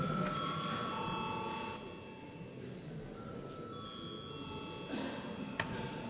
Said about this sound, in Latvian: Un lūdzu atbalstīt likumprojektu kopumā. Paldies, lūdzu zvanu.